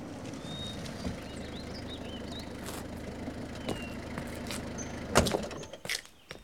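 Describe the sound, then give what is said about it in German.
A car marked Zoo Neustadt approaches on a lonely country road: its engine rumbles steadily at a low pitch, with small birds chirping faintly above it and a few dull knocks, the loudest clunk coming near the end. No one speaks. “Doch, da hinten kommt ein Auto.”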